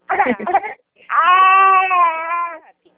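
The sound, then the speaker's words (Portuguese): A baby cries, starting with a few choppy, broken sobs and then letting out one long, sustained wail that slowly tapers off. “Ai, na verdade eu tô um pouquinho apuradinha com o bebê aqui.”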